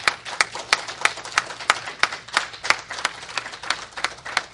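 A crowd gives the Furr family a round of applause, many hands clapping steadily at once with sharper individual claps standing out throughout, at a moderate level and without voices.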